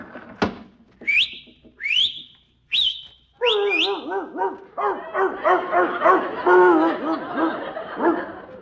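dog barking

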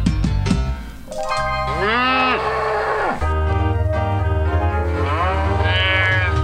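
cow mooing

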